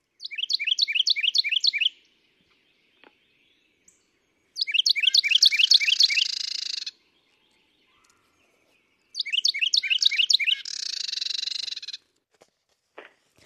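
carolina wren song

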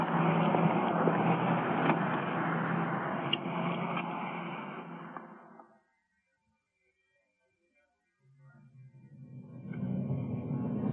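car driving

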